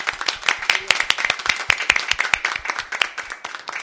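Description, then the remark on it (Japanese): At the close of a church service, an audience applauds toward God, breaking into sustained applause with many hands clapping in a dense, crackling patter that stays fairly loud and steady throughout. No voices stand out above it. “神様に向かって最後に皆さんと一緒に拍手したいと思います。”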